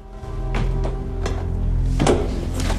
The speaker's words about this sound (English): The inner hatch slides open and Miller staggers back into the event horizon, collapsing against the wall of the hull.